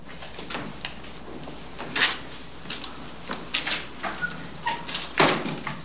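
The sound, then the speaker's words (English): A man picks up a wooden chair and dumps it down hard on the ground, giving a loud knock followed by several shorter clatters and scrapes over a low, steady hum, with no one speaking. “The man picks up a wooden chair and dumps it down on the ground.”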